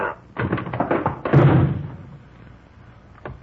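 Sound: door being opened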